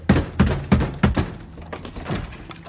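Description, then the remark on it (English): Four heavy, evenly spaced, loud thuds of a fist pounding on a door, followed by softer scraping and rattling as the door is pulled open; the person pounding holds a chainsaw at the ready. “Trailer cocks the shotgun, as Bumper, with his chainsaw ready, pounds on the door and opens it.”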